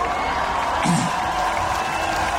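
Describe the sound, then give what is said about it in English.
An audience applauds in a steady, dense wash of clapping that holds an even loudness for a couple of seconds, with a brief louder burst from the crowd partway through. “There's nothing like genuine applause.”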